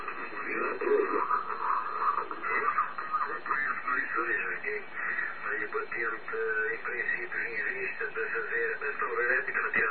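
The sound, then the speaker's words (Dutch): A shortwave amateur radio receiver tuned to the 40-meter band plays a strong, narrowband transmission: a voice comes through thin and filtered above a steady hiss of static, loud and continuous throughout. “Ik heb maar momenteel op 40 meter staan. Maar normaal gesproken dan had ik een S'je 4 en 5 aan storing.”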